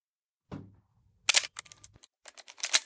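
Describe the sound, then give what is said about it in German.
A muffled mechanical shutter clack of a film camera, then its rapid-advance lever ratcheting through a fast string of crisp, bright clicks that end in a sharper final snap. No one speaks. “Das mechanische Klicken war wie Musik in Johns Ohren. Erneut zog er den Schnellspannhebel und schaute durch den Sucher.”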